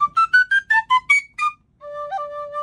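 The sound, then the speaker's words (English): An Irish penny whistle plays a quick run of about eight separate notes stepping up a major scale, each bright and breathy with clear overtones, then holds a steadier note that bends briefly near the end. “So here it is, some thoughts on the Irish penny whistle.”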